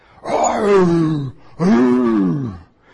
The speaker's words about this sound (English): As scouts one time, we camped at Lion Country Safari up here in Palm Beach. In the early morning, we could hear the lions roaring.